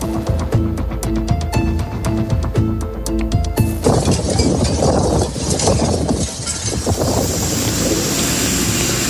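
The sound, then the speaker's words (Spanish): A rhythmic ticking, tonal passage gives way after a few seconds to a steady roar of wind and rain, a dense, loud, hissing wash with gusty swells and no voices. “Lluvia, viento.”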